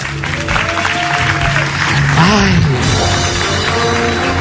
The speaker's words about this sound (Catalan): Ben fort aquest aplaudiment. Gràcies, gràcies.